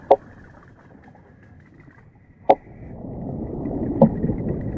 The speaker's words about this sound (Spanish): En las praderas de Posidonia resuenan los caballitos de mar, a base de hacer entrechocar dos huesos especiales del cráneo.